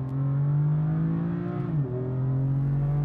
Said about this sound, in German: Jetzt drehen sich die Räder wieder auf der traditionsreichen Rennstrecke im Westen Sachsens.